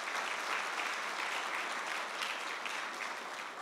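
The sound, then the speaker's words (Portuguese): A church audience claps for God steadily for several seconds, a dense, even wash of many hands with no pauses and no voices standing out. “Você podia aplaudir a Deus.”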